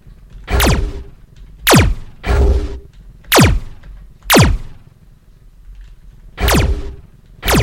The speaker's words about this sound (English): you will hear a whoosh sound. Depending on how close you are, you will either hear a long whoosh